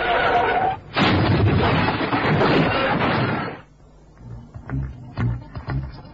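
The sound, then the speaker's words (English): A car slams into a truck on the wrong side of the road at a sharp bend: a loud roaring crash breaks off briefly, then surges back as a long grinding rumble before dying away into quieter, scattered voice-like sounds. “There's a truck on the wrong side of the road.”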